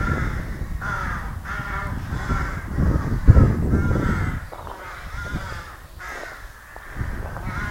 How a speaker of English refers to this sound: Maybe I'll just cut to the cool sound of crows that I recorded while I was out there.